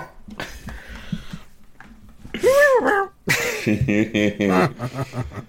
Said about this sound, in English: Meow meow. Meow meow. This is cat.